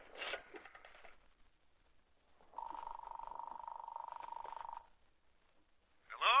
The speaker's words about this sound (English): I'll phone him right now. I remember his home phone number. Oh, I do hope he's home.